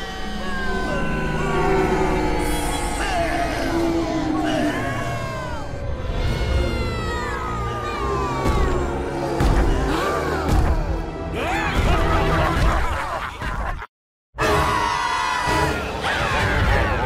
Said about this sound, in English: The crowd's turned on us. We gotta get out of here.